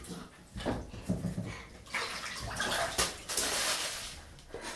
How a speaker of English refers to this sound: Did you throw a snail? Ready? Let me throw it back in. Catch it. Ready to catch? Catch the snail. Splash. Splash. Splash.